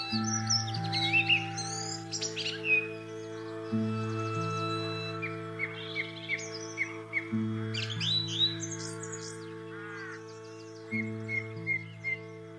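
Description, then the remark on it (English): Busy birdsong of chirps, trills and whistles recorded outdoors at the start of a day fills the scene, layered under an improvised steady low droning tone that shifts in slow repeating cycles every few seconds. “And so it started with bird song and finished with a fox barking.”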